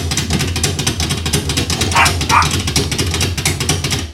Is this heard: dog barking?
yes